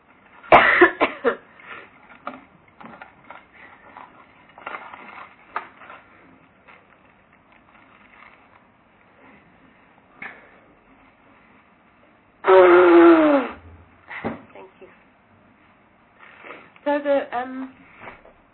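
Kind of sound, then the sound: human body sound, blowing nose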